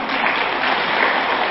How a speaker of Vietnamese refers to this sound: Giỏi, cho chàng pháo tay.